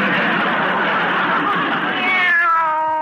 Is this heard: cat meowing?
yes